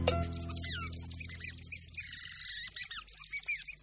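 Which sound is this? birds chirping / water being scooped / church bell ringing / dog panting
birds chirping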